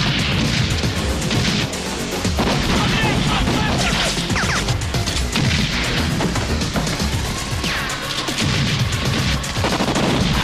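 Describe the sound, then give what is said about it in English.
Sustained rounds of gunfire, as Axel, Taggart and Billy fire at Carla and other men hiding in a building, crack in dense, overlapping bursts throughout, loud and chaotic, with sharp impacts and crashing debris mixed in and some voices shouting underneath. “Axel, Taggart, and Billy fire rounds of bullets at Carla and the other men hiding in the building.”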